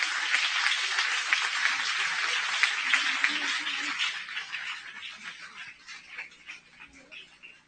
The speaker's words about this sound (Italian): Dio vi benedica, fategli un altro applauso a questa parte.